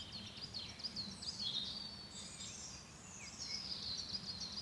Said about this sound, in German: Kommen wir mal zu den Vögeln. Also ich weiß nicht, ob man die hört. Nur mal einen Moment ruhig.